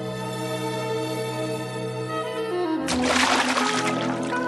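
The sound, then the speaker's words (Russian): Steady, sustained musical tones play on their own, then a loud burst of splashing sea water cuts in past the midpoint and keeps fizzing with spray to the end, the music continuing underneath. “Может, пойдем к морю? Айда, пошли!”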